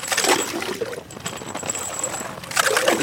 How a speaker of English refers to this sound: Frigid water gurgles up through the holes. Even though we're in the middle of the city by the giant bridge that links the right and left banks, it's like a silent white wilderness out on the frozen river.